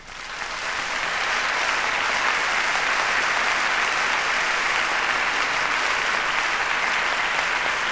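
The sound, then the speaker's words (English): Loud, sustained applause from a large audience for an orchestra's string section, a dense wash of clapping that swells up in the first second and then holds steady throughout, with no voices standing out. “I would like to show you wonderful applause with the ladies and gentlemen of our magnificent string section”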